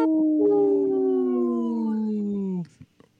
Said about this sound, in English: People that are watching us on Facebook Live or YouTube will always pull up a little wolf howling.